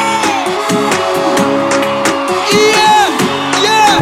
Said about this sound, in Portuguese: Os gritos!